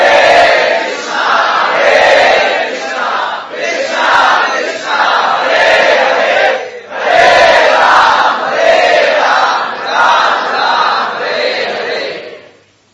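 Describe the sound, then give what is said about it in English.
A large crowd chants holy names together in loud, sustained unison phrases that repeat in waves every few seconds, with short breaks between phrases. “With this spirit, we are together to chant the holy names.”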